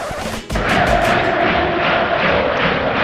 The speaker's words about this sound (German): Okay, der FC Sevilla verliert das Spiel, aber hier jubeln die Fans.